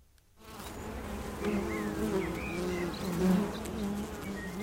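A dense, steady drone of many honeybees buzzing close by, a continuous swarming hum with shifting pitches as individual bees pass near, rising after a brief quiet start.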